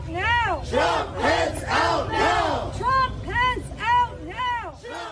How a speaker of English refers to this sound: As the Senate committee met, protesters, some shouting "Stop the confirmation," demonstrated outside the Capitol across the street from the Supreme Court.